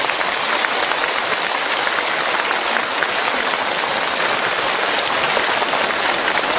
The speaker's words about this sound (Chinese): 今天这么多法师前来助缘，台长用大家的掌声来替我感恩他们。